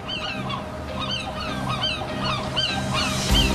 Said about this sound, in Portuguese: Pero éntrame o medo cos sons sempre histéricos das gaivotas que escoito cada tarde neste cuarto, o meu cuarto sen vistas.